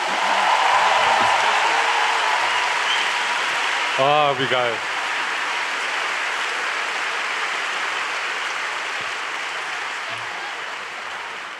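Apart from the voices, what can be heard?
applause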